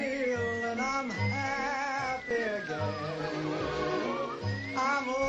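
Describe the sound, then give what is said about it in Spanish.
A bright whistled melody, sampled many times by various musicians and DJs, glides over a dense music track with a pulsing bass line, the tune rising and falling in smooth phrases, loud and upfront with no talking. “sí que ha sido sampleado en muchísimas ocasiones por diversos músicos y DJs, incluyendo estos silbidos que tenemos en la cabeza.”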